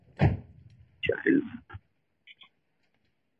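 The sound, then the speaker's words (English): A car door opens with a heavy thunk and latch rattle, then swings shut with a solid thump, followed by a couple of faint clicks. “Hopefully he thinks I got out of my car now.”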